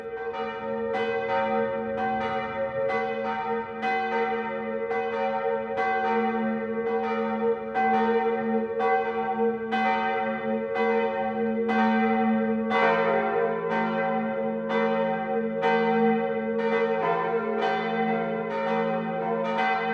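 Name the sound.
church bells ringing loudly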